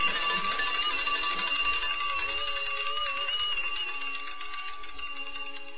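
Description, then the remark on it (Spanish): A school bell rings continuously with a shrill, metallic buzz, holding steady and loud for about six seconds with no voices over it. “Apenas sonó el timbre, la niña se sobresaltó.”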